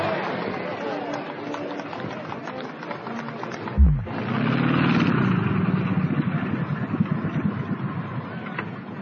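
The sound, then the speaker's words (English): A Lockheed Electra propeller plane's engine drones steadily over Lester's Field on the outskirts of St. John's, Newfoundland, with a short low thump partway through. The engine then swells and its pitch climbs and holds in a loud, rumbling hum. “If you listen, you can hear the purr of the Lockheed Electra, the most advanced aeroplane in the skies.”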